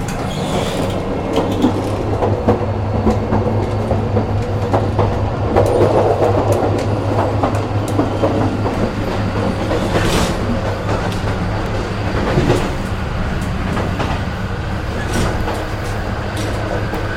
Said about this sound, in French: Ok, on est le 2 vendredi mai 03 dans le train entre Patras et Athènes.